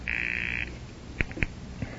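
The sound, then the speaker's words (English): A single steady, buzzing telephone ring tone sounds on the line of a call from a coin telephone for about half a second, followed by a couple of sharp clicks as if the receiver is picked up. “I will try to ring your number.”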